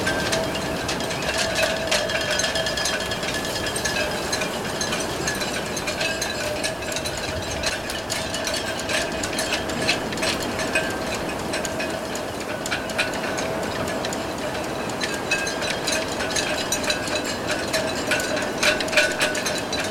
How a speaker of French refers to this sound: Que serait-ce une île sans le chant des mâts des bateaux?